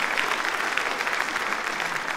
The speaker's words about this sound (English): Let's not get carried away with the applause, because if they gave a fuck, they'd run it.